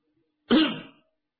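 A single light cough, a short throat-clearing burst of about half a second, made by someone just outside a tent door, alone in otherwise quiet surroundings.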